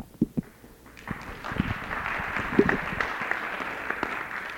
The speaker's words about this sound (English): and I perhaps should not stand up to refute somebody, especially when they're popular, as is indicated by the first applause today.